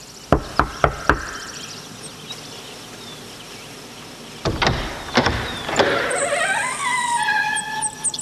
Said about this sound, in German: Justus klopfte an der Tür und der Regisseur öffnete.